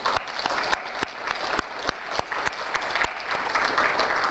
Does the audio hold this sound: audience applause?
yes